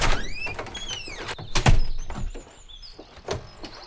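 A door creaks open with a wavering, high-pitched squeal, followed by a few dull thumps and knocks. No one speaks.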